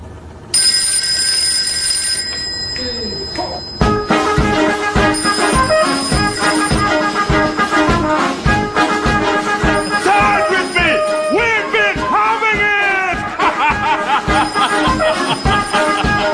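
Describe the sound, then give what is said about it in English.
A mobile phone rings with a full song as its ringtone: a tinkly melodic intro, then a steady thumping beat and busy music playing loudly and continuously, with faint chuckling underneath. “And then they tell me that you can get full songs playing when your phone rings.”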